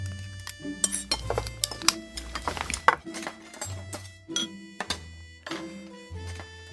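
Dishes clink and scrape as cooked beef and bean sprout rice is scooped into bowls for dinner, a series of irregular taps of spoon against ceramic over a soft, steady musical backdrop.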